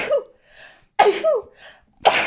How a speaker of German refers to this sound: Gesundheit.